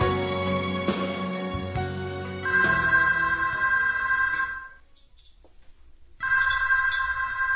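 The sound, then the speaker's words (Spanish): A telephone rings loudly, a sustained electronic trill that stops for about a second and then starts ringing again. No one speaks. “Coge el teléfono.”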